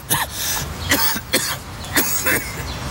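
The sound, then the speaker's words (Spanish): A person coughs repeatedly, about six harsh, raspy bursts in an uneven rhythm, fairly loud, with no talking. “Por más historias sin tos, Muxol adulto, indicado para el alivio de la tos con flema.”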